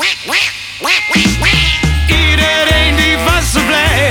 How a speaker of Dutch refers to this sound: De eend die kwaakt.